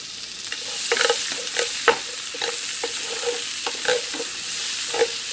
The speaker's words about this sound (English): Just want to saute this until it's nice and transparent. Now this is really nice and transparent, so I'm just going to take this and I'm just going to put it on the side here.